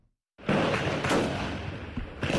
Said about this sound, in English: Residents of Kapenguria, a town in western Kenya, woke up to the sound of gunfire Thursday as an alleged terror suspect killed several officers in a police station.